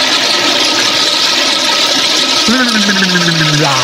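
household object, toilet flushing

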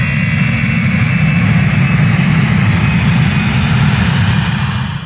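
vehicle, airplane taking off

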